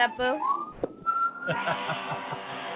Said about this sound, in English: I heard a fire truck.